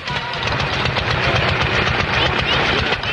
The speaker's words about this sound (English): The rhythmic explosions of the early single-cylinder gas engine were once a familiar sound pulsating across rural America.